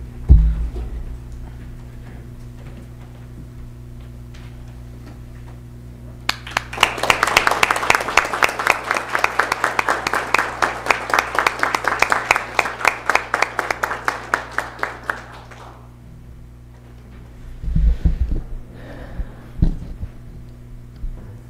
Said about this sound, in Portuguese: Convido a todos os vereadores que se fiquem de pé para a gente fazer um aplauso a esses policiais.